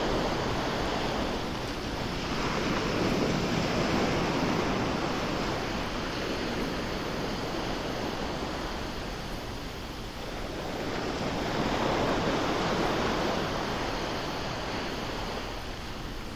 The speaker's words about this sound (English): Listen as the waves roll in and out onto the shore. Focus on the sound of each wave as it approaches, as it crashes onto the shore, and then as it retreats back to the sea.